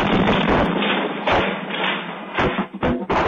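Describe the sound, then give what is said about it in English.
A large explosion at the TPC Group chemical plant in Port Neches, 80 miles east of Houston, caught on a home security camera in the middle of the night: a loud, continuous roar of rushing noise with several heavy thuds and bursts, muffled and low-fi, with no voices. “A home security camera captured the blast in the middle of the night.”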